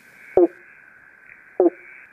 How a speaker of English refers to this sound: So that's a banjo frog. It's one of the most iconic kind of Eastern Australian frogs. It also has a really crazy common name, particularly that's used in the south of the mainland of Australia, of the Pobblebonk